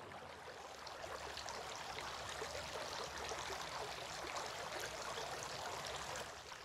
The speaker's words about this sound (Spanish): Lavarse las manos.